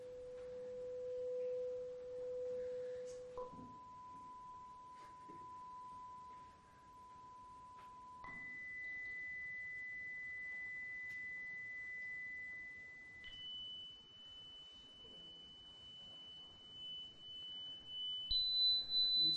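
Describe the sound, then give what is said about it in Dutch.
A steady pure sine tone for a hearing test steps upward in pitch every five seconds, climbing through several distinct levels to a high, thin whine, with faint background noise underneath. “Dus om de 5 seconden zal de hertz naar boven getrokken worden.”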